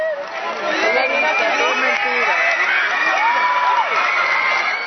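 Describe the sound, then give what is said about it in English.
A large crowd in Havana, Cuba, cheers and shouts continuously, greeting a couple walking hand in hand. A dense wash of overlapping voices with excited calls rising above the din, loud throughout. “Large crowds of people greeted them as they walked hand in hand through Havana, the Cuban capital.”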